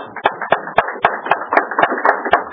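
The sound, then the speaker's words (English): An audience applauds a lecturer after his lecture: a dense, steady wash of clapping with sharp, evenly spaced claps standing out at a quick beat throughout. No one speaks. “I think we ought to applaud him.”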